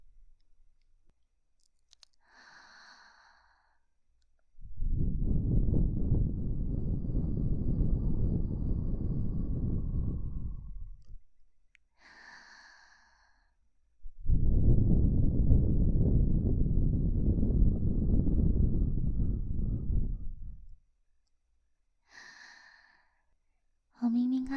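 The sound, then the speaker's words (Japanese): Two long, soft, sweet breaths are blown at the listener, each lasting around six seconds, with brief quiet vocal sounds before, between and after them. “甘い吐息をかけてあげるね。”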